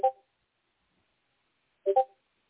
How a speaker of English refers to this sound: Somebody's beeping. Ken, is that your heart monitor?